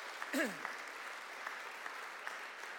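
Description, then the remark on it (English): An audience gives a steady, dense round of applause for the Diocese of Down and Dromore, filling the whole stretch, with a brief rising-and-falling whoop near the start. “So I think we should give the diocese a round of applause too.”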